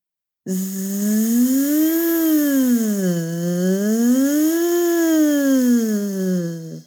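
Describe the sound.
As a vocal exercise, a single voice hums a steady buzzing zzz while breathing out, imitating a bee as the pitch glides smoothly up and down twice, like a slow siren. It's fairly loud and unbroken for several seconds.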